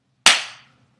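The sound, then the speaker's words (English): A person gives their own bare buttocks a single sharp smack with a hand, crisp and fairly loud, with a quick bright crack that fades within a fraction of a second. No voices accompany it. “Give your ass a slap for me.”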